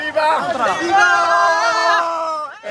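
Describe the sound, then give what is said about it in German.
Loud, sustained shouting voices ring out over a busy crowd babble, a jubilant outdoor cheer from migrants, mostly young men from Morocco, running through the streets of Ceuta, the Spanish exclave, that holds steady for a couple of seconds before dropping off briefly. “Jubelnd laufen sie durch die Straßen Ceutas.”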